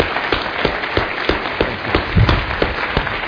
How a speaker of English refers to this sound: So I'd like for us to give a nice applause to these two real pros when it comes to healthcare.